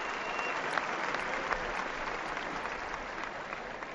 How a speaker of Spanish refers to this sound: Sonríe Nadal. Aplauso del público parisino.